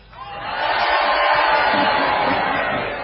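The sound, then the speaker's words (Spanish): A crowd of people outside a tent shouts and cheers together in a sustained, loud roar lasting a few seconds, with a dense, muffled wash of many voices. “Que grite solamente la gente de afuera.”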